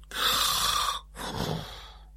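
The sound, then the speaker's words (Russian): A voice imitates a man snoring while asleep on a couch, with two breathy rasps: a longer drawn-in snore followed after a short pause by a rougher, lower one, with no talking. “Храпел он.”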